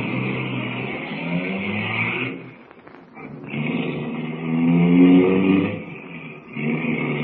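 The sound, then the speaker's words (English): A car engine turns over and revs, dips briefly, then roars back up and keeps droning steadily as the car pulls away, with no voices. “Here's the car. Hop in.”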